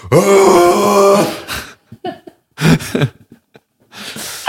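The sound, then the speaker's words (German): A voice imitates an elk mating call: a long, loud, nasal groaning tone, followed by a string of short grunts and breathy huffs, ending with a hissing exhale. “Ich finde, es gibt richtig viele Tiere, die so einen richtig lustigen Balzlaut haben. Zum Beispiel Elche.”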